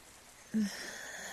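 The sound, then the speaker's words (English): Soft, steady hiss of rain falling on a roof, continuous and fairly faint, with a brief low hum or wheezy vocal sound partway through. “Hearing the rain fall on the roof.”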